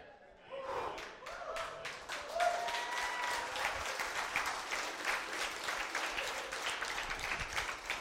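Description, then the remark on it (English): A church audience breaks into sustained applause during an evening service, many hands clapping in a dense, steady patter that swells quickly after a brief quiet start and holds at a lively level throughout, with a few voices faintly mixed in. “And you clap tonight.”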